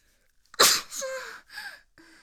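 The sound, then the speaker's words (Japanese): A single loud, wet, spraying sneeze bursts out, followed by a couple of softer breathy exhalations and a faint voiced trailing sound. “今日なんかすごく唾が飛沫が飛んでそうなくしゃみ出ますね。”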